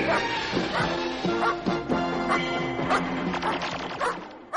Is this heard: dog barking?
yes